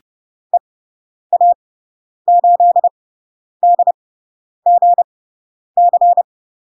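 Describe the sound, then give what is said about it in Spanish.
Morse code tones beep out a radio callsign from Spain in short and long bursts, a single steady pitch keyed in separate character groups with brief pauses between them, clear and alone. “Ya sabemos las letras, sabemos los números, ya podemos empezar a escuchar indicativos.”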